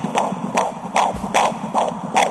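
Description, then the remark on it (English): A fast, steady fetal heartbeat: six soft whooshing thumps in quick, even succession, with a faint hiss between beats and no voices. “It's a fetal, 11 months old child's heartbeat, because this is a little bit faster, you know.”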